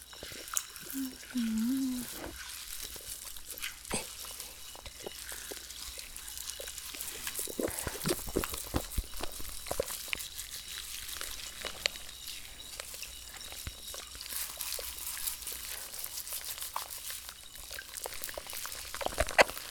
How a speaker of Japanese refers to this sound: 頭の中で炭酸がパチパチ弾けて気持ちいいですね。